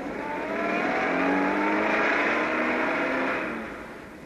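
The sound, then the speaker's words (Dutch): A car engine revs and accelerates, its steady droning pitch climbing as it pulls away, then the rumble eases off slightly toward the end. No voices are heard. “Quentis, ik rij weg.”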